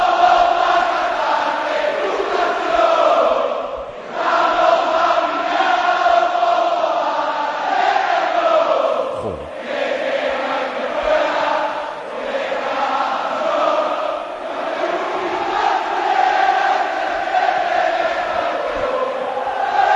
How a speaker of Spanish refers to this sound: Suenan las primeras notas del himno del Betis, las cartulinas al viento, bufandas y banderas también, suena el Benito Villamarín.